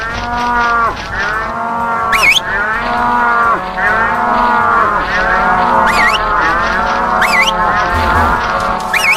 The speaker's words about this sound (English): Some cows. Ja, okay. Mal gucken, dass wir so viele wie möglich zusammentreiben.